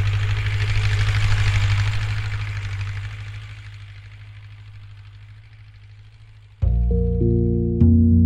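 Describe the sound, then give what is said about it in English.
A tractor engine drones steadily while a huge metal blade slices through soil, flipping it upside down and smashing it up, with a rough, hissing grinding texture that slowly fades; near the end, music abruptly comes in over the low rumble. “Now, watch as a huge metal blade slices through it, flips it upside down, and smashes it up.”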